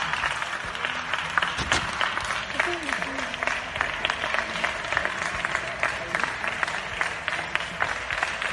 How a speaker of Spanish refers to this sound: Esos aplausos dedicados a los sanitarios que podíamos escuchar a las 8 de la tarde sin parar desde los balcones de nuestras casas